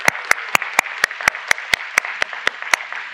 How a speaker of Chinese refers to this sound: 你知道我们今天在我们当中有三个人，母亲两个儿子从圣地牙哥昨天晚上开车来到我们中间，就要来参加如何导读的聚会，我们给他们一个鼓掌。